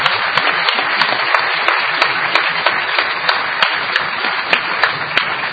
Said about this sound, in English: Clap the hands for everybody.